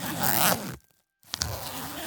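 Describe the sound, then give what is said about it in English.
A child's school backpack zipper is pulled in two quick rasping strokes separated by a short silent pause, the second stroke ending with a couple of sharp ticks, as the child gets ready for school. “that zipper sound must have been the backpack.”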